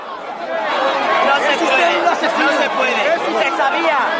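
A crowd of protesters in the town of Pia Porta yelling and shouting together at King Felipe and his entourage, with shouts of "murderer", a dense, continuous roar of many overlapping voices at steady loudness, without pause.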